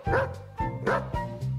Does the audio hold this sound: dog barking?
yes